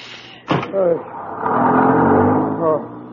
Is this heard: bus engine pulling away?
yes